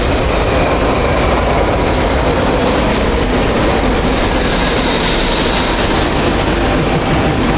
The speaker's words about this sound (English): Well, here's the metro arriving.